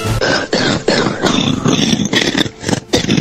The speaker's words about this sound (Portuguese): Deu para perceber aqui. Isso aí é uma tosse.